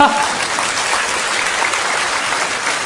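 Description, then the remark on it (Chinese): A steady burst of audience applause, dense clapping from many hands sustained evenly and fairly loud throughout. “怎么没有掌声呢？”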